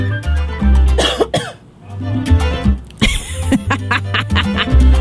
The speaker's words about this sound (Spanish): Ay, una tosecita, no puedo toser. No se me puede ir una gotícula de saliva por el camino viejo.